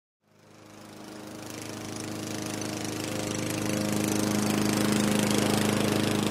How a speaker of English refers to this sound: Night fell quicker than I could finish my yard work. I spent the last 5 minutes mowing in the gloom of dusk.